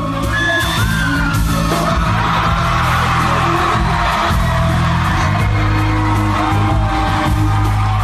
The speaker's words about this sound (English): I'm going to play the audio of me jumping into the crowd. And we were at the Orpheum in Madison, Wisconsin. It's packed. And I was like, you know what? I've never done this before in my life. I was feeling it. I just jumped into the crowd.